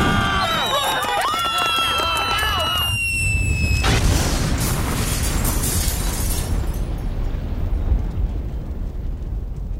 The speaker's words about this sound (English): Open the window. Oh, I love fireworks.